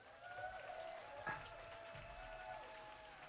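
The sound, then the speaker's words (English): A church audience claps steadily for the full length, giving a long hand clap to welcome their bishop, a continuous wash of applause with sustained tonal notes running faintly underneath. “Give him a long hand clap and a thank you”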